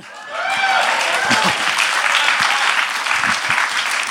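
Sustained audience applause, a dense wash of clapping that starts quickly and holds steady and loud for several seconds, with faint whoops and voices mixed into the crowd noise.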